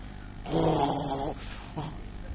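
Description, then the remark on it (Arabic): A man loudly imitates snoring with a rough, rattling growl held for under a second, then lets out a shorter, softer snort after a brief pause. “واحد طلق زوجته لأنه كان إذا نام ظهر منه شخير. تعرفون الشخير؟ يعني الواحد هو نايم بعضهم يجي صوت مثل الدافور”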